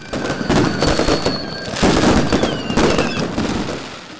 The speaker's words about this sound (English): Up and down the country, crowds have gathered to watch fireworks light up the sky.